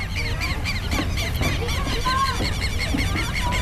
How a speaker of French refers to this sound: D'ailleurs, on peut entendre les oiseaux sauvages.